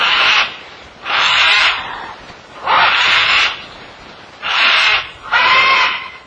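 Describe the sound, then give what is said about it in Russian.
Loud, harsh parrot screeches from a cockatoo and a green-winged macaw sitting on a perch, five raspy calls in a row, each about half a second long with short gaps between, piercing. “Каково же было мое разочарование, когда вместо драки я увидел мирно сидевших на жердочке попугаев кокоду и зеленокрылого ару, явно озабоченных лужением своих глоток.”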